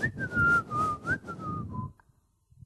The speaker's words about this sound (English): So they looked everywhere, and they kept hearing this whistling, and eventually they found the janitor in the toilet mopping the floors, mopping the men's toilets.